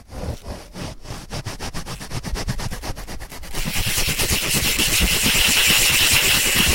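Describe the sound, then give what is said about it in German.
Two foam sponges are rubbed together faster and faster in rhythmic scrubbing strokes that speed up from slow chugs into a dense, continuous rushing hiss, imitating a train pulling away. “Es hört sich ja richtig wie ein Zug an.”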